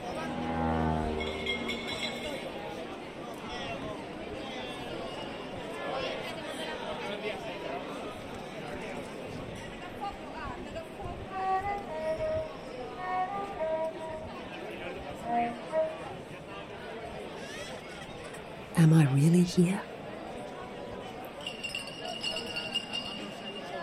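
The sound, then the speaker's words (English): Scattered bright clinks, like ice knocking in a glass, ring out intermittently over a busy outdoor murmur in a piazza, with people talking and a brief louder clatter toward the end. “That clinking sound. It sounds like ice blocks in a glass, a giant's glass.”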